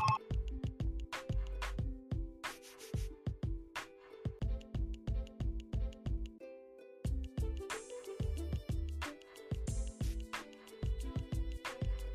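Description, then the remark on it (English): A phone rings with a loud musical ringtone: a punchy, beat-driven tune with thumping bass and steady percussion repeating for several seconds, with no one talking over it. “Bro, the phone's going off right now.”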